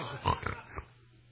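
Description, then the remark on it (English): A person imitates a pig snorting, producing a few rough, grunting snorts in quick succession, moderately loud, then trailing off into quiet. “But you ever heard of a pig snorting?”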